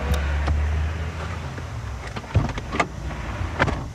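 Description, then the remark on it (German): A woman, a prostitute, climbs into a car on a street-walking strip in Vienna's 15th district over a low, steady engine rumble: a few thumps and rustles, a door clunk and shifting movement inside the vehicle, with no one speaking. “Die Prostituierte Susanne steigt zu ihm in den Wagen.”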